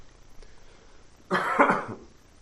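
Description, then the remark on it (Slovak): A single cough bursts out clearly after a quiet moment, loud, with a brief rough throaty tail. “Pokojne si odkašlite.”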